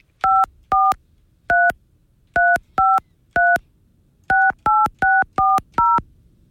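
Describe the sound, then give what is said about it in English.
A rapid series of phone keypad tones, about ten short dual-pitched beeps punched in quick bursts with brief pauses between groups, as a meeting ID is entered on a telephone to dial into a Zoom meeting. “Enter your meeting ID followed by pound.”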